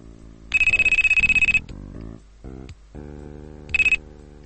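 A phone ringtone trills in a rapid electronic burst for about a second, then a melodic tune plays before a second short ringing burst near the end, loud; it is a call from Takada Junji.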